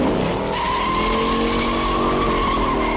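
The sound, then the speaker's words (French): A film car chase with a Ford Mustang roars past, tires squealing in long sustained screeches over a loud, revving V8 engine, dense for the whole three seconds. “L'une des plus célèbres voitures du cinéma, dont on entend un extrait, est à vendre.”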